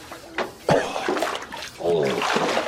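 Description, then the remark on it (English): Water sloshes and splashes as a heavyset man moves and wallows around to wash himself, with irregular bursts of splatter and a voice murmuring partway through. “Because I'm a bigger guy with, like, folds and flaps, and I have to move around, like, almost like a pig in a way, and wallow.”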